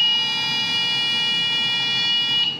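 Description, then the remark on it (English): A fryer's high-temperature alarm blares when its countdown finishes, as a loud, steady, high-pitched electronic tone with buzzy harmonics, holding for the whole stretch before a brief chirp-like shift at the very end. No voices. “That is very loud, that little chirp at the end there.”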